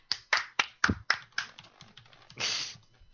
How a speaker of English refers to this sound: You know I'm all about that hand clapping.